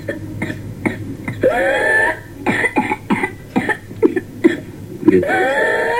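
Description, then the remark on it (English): A rapid string of harsh coughs from pertussis (whooping cough) comes in fits, each run ending in a long, high-pitched whooping gasp as breath is drawn in, the pattern repeating twice. “followed by weeks to months of rapid coughing fits that sometimes end with a whooping sound.”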